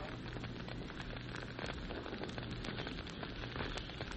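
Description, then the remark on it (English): A steady crackle of burning campfires, with dense irregular pops and snaps over a soft hiss and a faint low hum, continuous with no voices. “For several seconds, there was no sound other than the crackling of the fires.”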